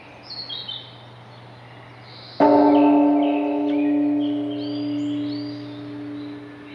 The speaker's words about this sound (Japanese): 6時、この鐘の音が終わるとお経が始まります。